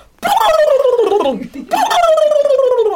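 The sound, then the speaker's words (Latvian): A person imitates a turkey gobble: two loud, warbling vocal bursts with a wavering, gargling quality, each sliding downward in pitch, separated by a brief pause. “Jā, ir tītars, jā.”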